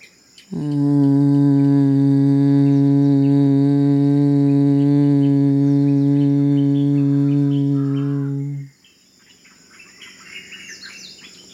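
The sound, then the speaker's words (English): A steady, loud lip trill produced on an exhalation as a soothing exercise: lips buzzing on a sustained low voiced tone for about eight seconds, then stopping abruptly, leaving faint chirps and background sound. “Your lips vibrating.”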